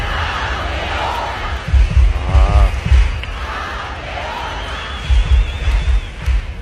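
A concert crowd roars and cheers in an ovation, a steady, dense wash of noise with shouts and whoops and heavy low thumps swelling in bursts midway and again near the end.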